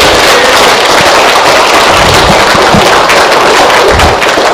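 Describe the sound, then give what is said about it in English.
A crowd claps steadily throughout, giving a speaker another round of applause: a loud, dense wash of many hands with crackling bursts, sustained without a break and with no voices standing out. “Let's give him another hand, eh?”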